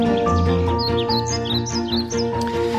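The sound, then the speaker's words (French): Birdsong: bright, repeated chirps and short trills over a dense, steady low-pitched drone that fills the background and stays fairly loud throughout. “Alors, sont-ils en grève, les oiseaux? Eh bien non, non, non, heureusement, ils sont là, ils ne sont pas rancuniers.”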